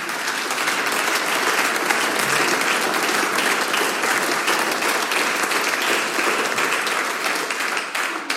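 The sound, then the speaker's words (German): Sustained, dense applause from a sizable audience for a clarinet quartet fills the whole stretch, steady and fairly loud with many overlapping claps and no clear talking on top. “Ihr kriegt einen großen Applaus.”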